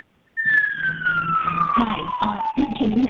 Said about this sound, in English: Yes, ma'am. Sounds a little like a ambulance there, but now we can hear you.